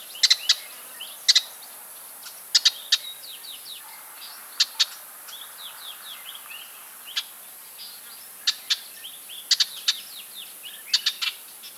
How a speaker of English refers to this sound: Next, we have the alarm call of a red-backed shrike, Lanius colurio, recorded in South Africa.